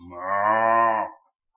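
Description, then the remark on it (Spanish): A young cow on the Granja de la Pluma Divina farm in Ecuador gives a single long, loud moo on hearing a voice over the phone, with a steady, low harmonic drone, swelling in and holding for about a second before cutting off into silence. “Y por obedecerme a comprar vaquitas, vaconas, hablando por teléfono, y la vacona en cuanto me oyó dijo ¡ah!”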